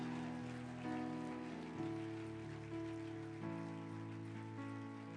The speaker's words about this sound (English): I'm very proud of you. Come on, give them another hand clap. Glory to God.